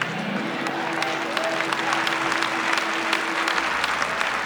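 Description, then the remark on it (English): A church audience claps steadily for the Lord for several seconds, a dense wash of many hands with sharp individual claps popping out, holding an even loudness throughout, with a faint murmur of voices beneath. “Give the Lord a good clap for it.”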